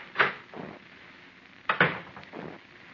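An office door opens and shuts twice in a row, each time a sharp latch click followed by a softer thump, with no one speaking.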